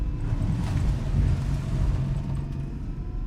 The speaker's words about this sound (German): Plötzlich gibt der Fahrer Gas und jagt davon.